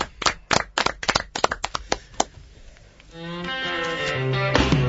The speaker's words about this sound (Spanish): Un aplauso para Neruda y para Maggi.